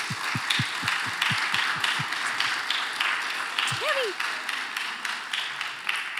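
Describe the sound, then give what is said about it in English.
A church audience claps on Mother's Day for all mothers while the women stand. The applause is steady and dense and holds at an even loudness throughout, with a few low thumps near the start and a brief vocal whoop partway through. “So can we clap for all of our mothers today?”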